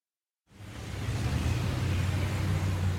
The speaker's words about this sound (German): ich finde diese Straße hier sehr laut. Und der Verkehr ist hier stark.